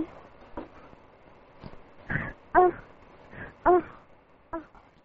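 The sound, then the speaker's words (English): A person imitates a small dog, letting out a handful of short, high-pitched yaps and whines at uneven intervals, fairly loud against a quiet background. “Now, little doggy style.”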